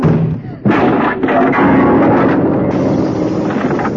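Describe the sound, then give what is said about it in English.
A door slams hard with a single heavy bang, followed by a few seconds of loud, dense rumbling noise that slowly settles. “How could I knock the vase off the piano just by slamming the door like this?”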